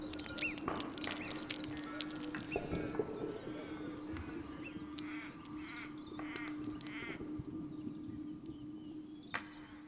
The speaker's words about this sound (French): Le croassement d'un corbeau qui s'amuse avec les courants d'air.